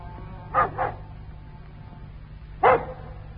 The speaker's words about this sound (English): What's the matter with the dog? He's been going on like that for nearly 20 minutes.